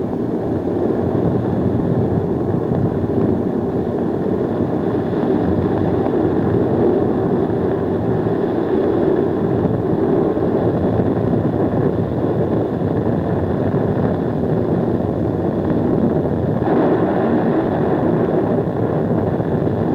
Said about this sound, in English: when it starts warming up like that jet, it just warms up the whole air all around the ship, the flight deck